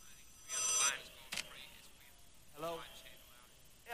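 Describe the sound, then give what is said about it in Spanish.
A short WhatsApp message notification chime rings out on a phone with bright, tonal beeps, followed by another brief electronic tone a couple of seconds later, over quiet background. “Hello, llegó el WhatsApp. Llegó.”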